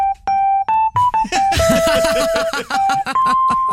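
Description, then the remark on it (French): A telephone at a police station in Molina de Segura, Spain, rings with a melodic electronic ringtone, sustained beeping notes stepping between pitches. A busy rhythmic accompaniment of strums and claps joins partway through, loud. “Soudain, le téléphone sonne.”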